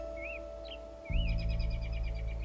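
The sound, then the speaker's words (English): American robins bicker high overhead in short, sweeping chirps, followed by a rapid run of repeated notes, over a steady low hum and a louder rumbling background in the second half; heard from the edge of a field. “I was just sitting here at the edge of the field leaning against the trunk of a tree and watching some American robins bicker high above me.”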